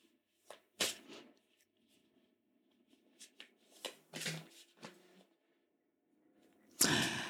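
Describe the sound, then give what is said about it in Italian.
Oracle cards being shuffled and drawn: a few quick papery riffles and flicks, a quiet pause with faint handling, then a louder, longer shuffle at the end. No one speaks. “Quindi per quanto riguarda le finanze andrà tutto bene perché è uscita la carta respira, quindi significa che riusciremo comunque a respirare”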